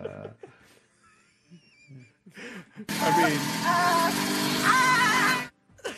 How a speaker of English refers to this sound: And I love the fact that she was on a scooter. She zipped by you, and you're like, I must have her. Do you still have that scooter sound effect? Oh, for sure I do.